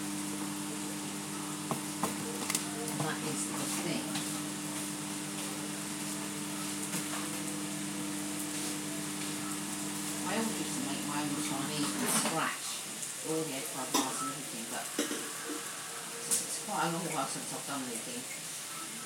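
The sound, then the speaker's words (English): Vegetables sizzle steadily in a hot pan while a utensil stirs them, with intermittent scraping clatters that grow busier in the second half. The frying hiss stays continuous throughout. “Let's get the next lot in. Of course the vegetables shrink down a little bit as it cooks, but you don't want it cooking till it goes soggy, that's the thing.”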